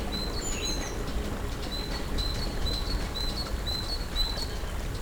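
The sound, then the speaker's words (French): Repeated thin, high bird chirps sound over a steady outdoor ambience in a mountain forest at nearly 1,300 metres altitude, several birds calling with short, evenly spaced notes and no one speaking. “Près de 1300 mètres d'altitude, encore des arbres, des oiseaux, des sources.”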